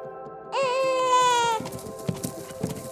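A recording of a human baby's cry played from a speaker in a playback experiment with deer: one loud wavering wail lasting about a second, followed by faint rustling and a couple of soft hoof-like thuds as a deer mother approaches the speaker.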